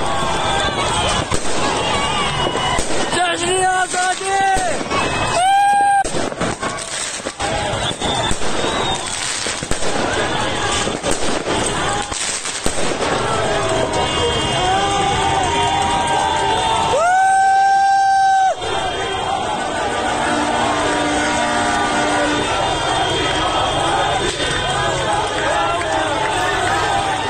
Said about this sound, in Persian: یکی از این شهرها بوکان بود که جشن آزادسازی هم گرفتن و شبانه کلی آتش‌بازی را انداختن. البته از اون آتش‌بازی‌های انقلابی، نه که تو خیابون آتش می‌سوزونن، از اون آتش‌بازی‌های واقعی تو جشنا که فشفشه و این چیزا هوا می‌کنن.